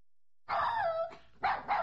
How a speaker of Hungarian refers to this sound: Mit ugattok, mi? Mit ugattok az udvarban, mi? Egész nap csak ugattok, mi?